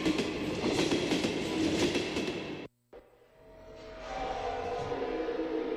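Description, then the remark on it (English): A ghost train ride carriage clatters loudly along its track with dense metallic rattling, cuts out abruptly for a moment, then resumes as a steadier rumbling roll with a faint high whine. “What's that sound? Someone's on the ghost train.”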